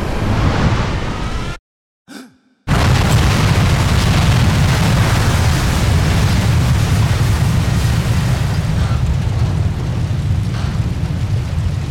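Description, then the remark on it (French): A plane with no wings or tail plunging into a snowy mountain: a loud, heavy roar breaks off for a brief silent moment with a short blip, then resumes as a continuous deep rumbling din with no voices. “Sans ailes ni queue, l'avion se précipite vers la montagne.”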